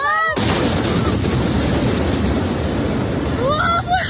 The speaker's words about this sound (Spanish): En internet, en las redes, están difundiendo vídeos como este que escuchas, en el que se ven pues la imagen de los impactos, de los daños causados por las explosiones en dos edificios de Moscú.